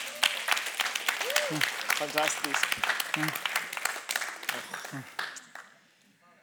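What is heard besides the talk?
audience applause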